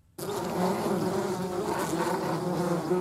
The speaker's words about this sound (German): So klingt es, wenn Wespen ihre Nester bauen.